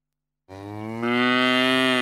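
A cow lets out a single long, loud moo that starts abruptly and swells in strength as it continues, with no other sounds around it.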